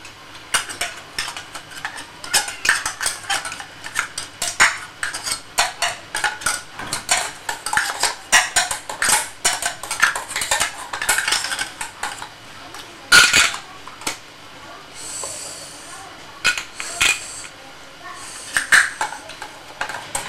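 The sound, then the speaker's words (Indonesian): A metal spoon clinks and scrapes repeatedly against a cooking pot on a stove, quick irregular taps with a few louder clanks and brief pauses between bursts. “Kompor. Itu, kompor lagi. Masak apa? Itu. Ini. Sendok. Sendok.”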